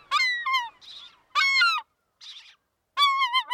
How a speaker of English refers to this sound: Just as raucous and hefty as its cousins, you can find American herring gulls from Alaska to Puerto Rico, squabbling over table scraps at an inland landfill, or scarfing down French fries by the beach.